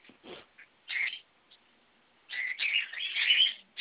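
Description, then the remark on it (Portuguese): Cockatiels chirp in bright, shrill bursts: a short call, a louder squawk, then a longer stretch of overlapping chatter near the end, with no one talking. “Tem passarinho aí também? Eu tenho 15 calopsitos.”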